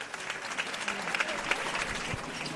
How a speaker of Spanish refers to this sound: Se entremezclan los aplausos, el final de la saeta y la última maniobra.